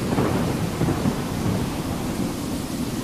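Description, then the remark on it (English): A steady thunderstorm: continuous heavy rain with deep, rolling thunder rumbling underneath, fairly loud, with no voices present throughout. “Oh man, storm's coming.”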